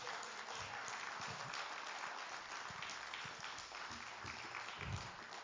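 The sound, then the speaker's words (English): A crowd of many people at a church service claps steadily for several seconds for the praise team, a dense, continuous patter of applause with no voices standing out. “let's give God a hand clap for the praise team today.”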